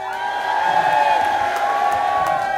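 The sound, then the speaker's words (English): An audience shouts "hey" together in one sustained, loud burst, a blended roar of greeting to Murda Fisher, who is outside the door, holding steady for a couple of seconds before fading slightly. “But everyone say hey to Murda out there.”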